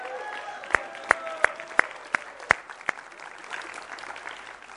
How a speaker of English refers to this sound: I think we need to give our brother Grubb a huge round of applause.